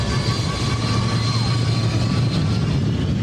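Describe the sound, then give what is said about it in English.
A steady, loud engine roar of an airliner in flight, a constant deep rumble with a faint high whine, continuous and unbroken throughout with no voices. “Plane fell apart at 30,000 feet.”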